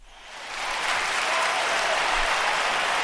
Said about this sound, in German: Da sagen wir natürlich... Applaus, Applaus. Applaus, Applaus.